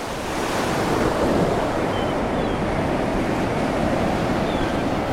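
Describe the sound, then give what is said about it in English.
Steady roar of sea waves washing onto a shore, a broad continuous wash of surf with some wind noise, no voices, holding at an even loudness throughout. “When it gets dark, we'll sit in the car and listen to the sea.”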